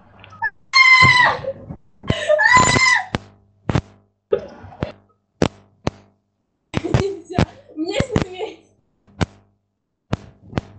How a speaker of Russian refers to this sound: Что это за крики были такие?